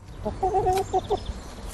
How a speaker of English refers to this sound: Egg-laying hens like these clucking around in suburban Brussels got a leg up from the EU this year with a long-planned ban on battery cages, the wire pens that cram chickens tightly together.